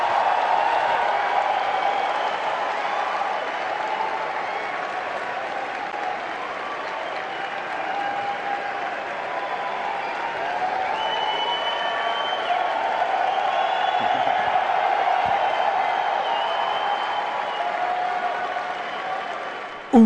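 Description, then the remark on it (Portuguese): Loud, sustained applause from a large standing audience after the announcement that PlayStation 4 will impose no new restrictions on used games, a dense wash of clapping that barely lets up for the full twenty seconds, with a few scattered cheers mixed in. “Nego aplaudindo de pé, louco. Quase que não para de aplaudir.”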